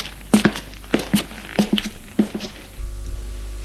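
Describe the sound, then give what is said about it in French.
Footsteps climb stone stairs leading up to the third floor in a steady rhythm of paired, hard-soled steps, crisp, then give way to a low, continuous rumble at the end. “prennent un escalier en pierre qui va au troisième étage.”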